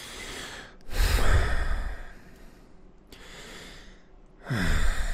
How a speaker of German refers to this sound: So, was soll ich noch machen? Schmatzen und schnaufen.